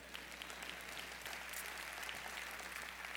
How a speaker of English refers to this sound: Yeah, go ahead. If you want to clap, I don't mind.